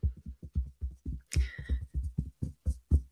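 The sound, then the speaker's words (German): Fingertips tap rapidly on the breastbone in a steady patter imitating raindrops, each tap a soft, low, muffled thud, with one brighter, crisper flurry partway through. “Oder wenn der Regen doller wird, du hörst es vielleicht auch durchs Mikro, wie es bei mir tockert und der Regen richtig dolle prasselt, vielleicht sogar zu Hagel wird.”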